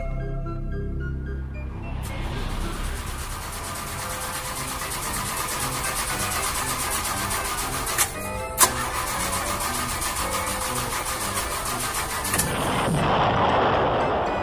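A car engine cranks and sputters harshly for about ten seconds without catching, punctuated by two sharp backfire-like bangs near the end, then dies into a low rumble. No one speaks.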